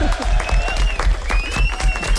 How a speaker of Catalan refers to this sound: Fort aplaudiment.